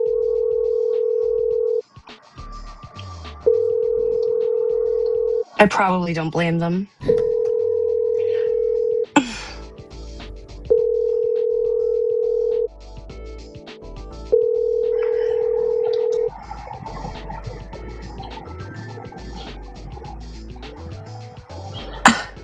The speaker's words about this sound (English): They're really just sitting there looking at that phone ring and all hopped up on vape juice.